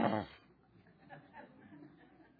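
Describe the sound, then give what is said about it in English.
A person briefly imitates a dog's growl in one short, rough voiced burst at the start. Faint murmuring and quiet room noise follow. “They'll growl and show their teeth.”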